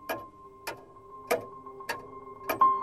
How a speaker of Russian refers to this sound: Тик-так, тик-так, тик-так. Откуда здесь наши ходики? Удивилась девочка.